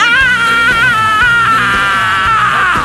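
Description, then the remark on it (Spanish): A person imitates an ant's scream with a sustained, shrill, high-pitched wavering cry lasting about three seconds, loud, with no other talking. “No, es que hacía un sonido rarísimo.”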